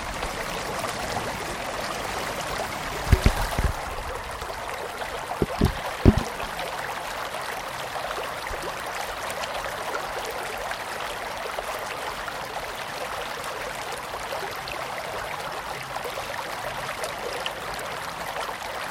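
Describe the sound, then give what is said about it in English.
A steady stream babbles and splashes continuously, with a few soft knocks or footsteps near the start and no one speaking. “So now we're following the water down.”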